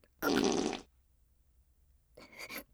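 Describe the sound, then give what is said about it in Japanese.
A loud fart bursts out for about half a second, followed after a pause by a second, raspier and slightly quieter fart. No voices are heard. “ですから私がおならをしてしまったのも悪魔の仕業に違いありません。”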